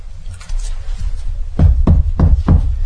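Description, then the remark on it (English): Four firm, evenly spaced knocks on a door, fairly loud, following a moment of low background rumble with no talking. “And you hear that knock,”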